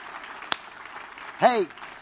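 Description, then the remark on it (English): An audience gives the Lord a clap offering, clapping in a steady, dense wash of applause, with one sharper clap standing out early and a loud voice whooping briefly over the clapping near the end. “Give the Lord a good clap offering, would you?”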